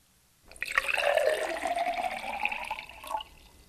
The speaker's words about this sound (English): Then the father pours some wine.